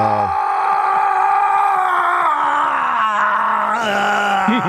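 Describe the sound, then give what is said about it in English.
A man lets out a long, drawn-out battle yell, imitating a movie war cry, loud, held for several seconds with a slightly wavering, strained pitch. “when you think of a yell in a movie, give me a little taste here.”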